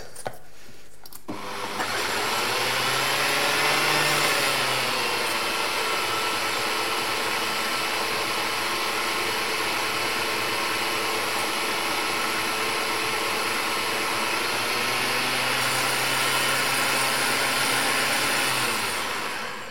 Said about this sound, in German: Werde ich noch ein bisschen Wasser reintun. Okay, lass es noch ein bisschen mixen.